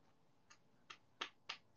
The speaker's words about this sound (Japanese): え、これさ、今さ、足でさ、足で叩いてるんだけど、聞こえるの？これ。